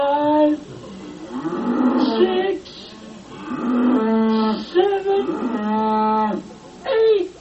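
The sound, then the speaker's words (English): Eight cows moo loudly, their long, drawn-out lows overlapping and following one after another with short breaks, and no one speaking. “Eight wonderful cows!”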